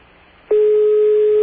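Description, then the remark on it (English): A telephone ringing tone on the line to a phone in Alma Atoll, placed through an operator: after a short hush, a single steady, mid-pitched electronic tone starts abruptly and holds unbroken to the end, with no one answering or speaking. “No doubt they're too busy over there to deal with things like phones ringing.”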